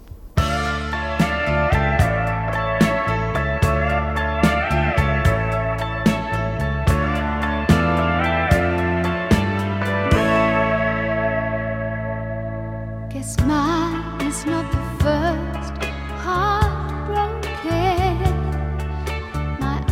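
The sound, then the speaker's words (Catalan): A ballad song from a film musical plays on its own, a sustained, richly layered arrangement with a brief thinning of the texture before it swells again near the end. “hi ha un tema destacat, que és quan ella està un pèl desesperada, que és aquest …”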